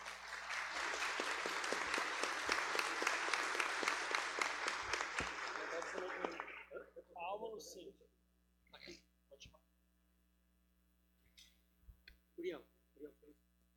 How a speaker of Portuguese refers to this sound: Receba com a salva de palmas, nosso deputado, por favor.